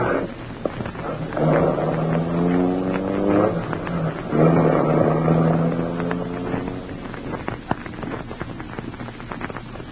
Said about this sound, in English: See under the shade. Harding's driving off in his car.